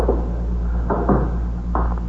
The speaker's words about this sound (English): Shut the door, will you,